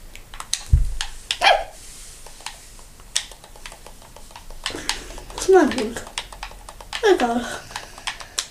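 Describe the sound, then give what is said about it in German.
A dog barks in a few sharp, separated bursts while fighting, over steady, rapid keyboard clicking, the barks moderately loud. “Mein Hund hat gerade gekämpft, während ich mich teleportiert habe.”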